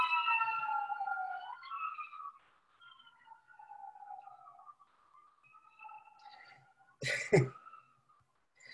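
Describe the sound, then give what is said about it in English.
An emergency siren wails outside, its tone sliding up and down, loudest at first and then fading. A sharp cough or throat-clear cuts in near the end. “Sorry, I have a siren going off.”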